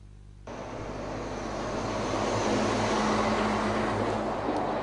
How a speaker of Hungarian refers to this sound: Ekkora teherautók száguldoznak keresztül Győrújfalun a nap 24 órájában, és fütyülnek a sebességkorlátozásra, állítja a település polgármestere.